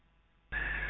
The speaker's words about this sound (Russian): Так, слышу, там у вас, по-моему, телефон или что-то такое пищало.